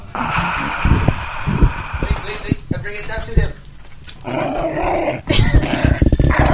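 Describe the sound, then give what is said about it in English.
A dog growls and grumbles for several seconds in uneven bursts, mixed with jangling and rustling handling noise from a microphone held down to it. “Is that the dog making that noise?”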